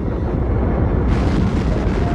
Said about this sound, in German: Während die Crew am Boden einen lauten Knall hörte, der entsteht, wenn man schneller als Überschallgeschwindigkeit fliegt,